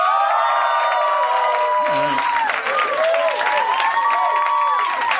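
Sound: audience cheering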